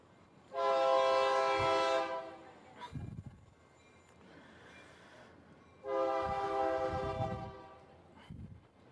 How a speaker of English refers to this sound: come on, train, get it moving. He is a slow goer, huh?